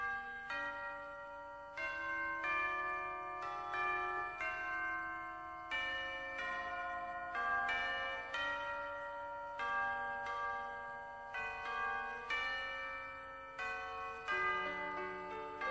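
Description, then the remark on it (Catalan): Church bells ring in a steady, overlapping peal, each strike sounding roughly every second or so, with long shimmering tones hanging between hits. Full, with no voices. “Un programa que explica la història a través de les úniques veus que amb el temps no han emmudit, les campanes.”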